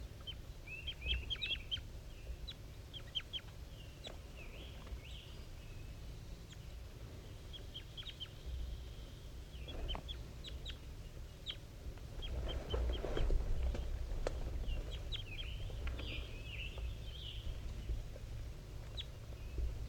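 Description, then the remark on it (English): A wild bird and a bird known as 5-3 call back and forth in a steady exchange of short, repeated chirps and trills over a constant low rumble of background noise, with no voices. “Wild bird and 5-3 still calling back and forth.”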